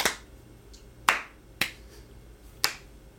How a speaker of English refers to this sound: Slow clap.